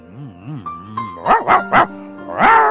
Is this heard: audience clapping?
no